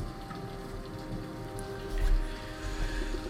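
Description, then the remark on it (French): Steady rain falls, a continuous hiss with soft patter, and a low rumble swells briefly midway through. No voices are heard. “Grâce à la pluie, peut-être, à l'air frais, contre ta peau, aux odeurs qui t'assaillent.”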